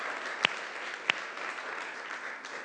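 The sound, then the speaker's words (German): Sustained applause from a free church audience for its guests, a dense wash of many hands clapping at moderate volume, with a couple of sharper, louder claps standing out near the start. No one speaks. “Kräftiger Applaus für alle Gäste, die es geschafft haben, in die Gemeinde zu gehen.”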